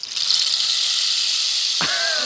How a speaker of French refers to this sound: Un bâton de pluie.